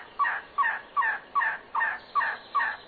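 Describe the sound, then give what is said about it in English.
An elegant trogon gives a steady run of hoarse, croaking calls, about eight evenly spaced notes in quick succession, clear with no other sounds around, in the Huachuca Mountains of Arizona. “Rare and spectacular, elegant trogons are also found here.”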